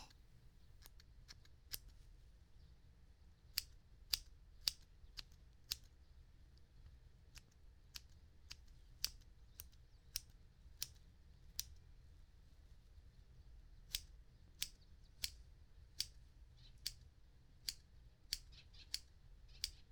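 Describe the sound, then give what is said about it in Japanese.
Small scissors trimming the protruding hairs of eyebrows snip in quick, irregular bursts of sharp metallic clicks, about two dozen cuts over a soft, low background hum, with no talking. “これならそんなに切る必要はなさそうかも。はみ出てる部分を切って”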